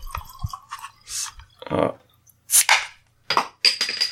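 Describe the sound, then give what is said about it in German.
A bottle of Pils beer is pried open with an old hard drive, giving a sharp crack and pop, followed by bursts of fizzing, gurgling pouring between scattered clicks and clatters. “Gut, ich schütt mir mal was ein.”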